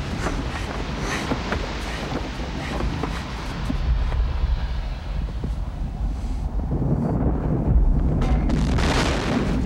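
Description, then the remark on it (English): A loud, continuous rumbling roar as the ground around a sinkhole in a snowy glacial basin collapses and swallows a campsite of domed buildings, with bursts of erupting steam geysers, heavy low booms and hissing spray building in intensity toward the end, with no voices. “Collapsing ground swallows the campsite of domed buildings.”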